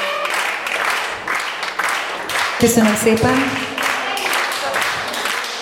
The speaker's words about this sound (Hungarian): Szépen köszönöm. Jól esik hallgatni a tapsot, ugye? Elismerem, bevallom.